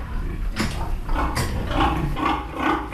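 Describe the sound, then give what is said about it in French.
Pigs grunting in a straw-bedded barn on a farm, a converted former industrial piggery, a steady run of short, rough grunts overlapping one another at an irregular rhythm, with no voices. “Et aujourd'hui, on a transformé tous ces bâtiments, on les a modifiés, on a mis les cochons sur la paille.”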